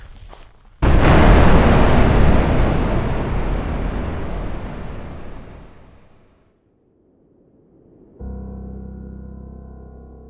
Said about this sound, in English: I was knocked back by the explosion, shrapnel raining down just feet away from me.